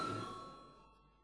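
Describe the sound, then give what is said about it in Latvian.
A parliament chamber bell rings before a vote, with a bright metallic tone that hangs in the air and steadily fades over about a second, with no voices. “Jā, bet deputāti lūdzu balsojumu, lūdzu zvanu.”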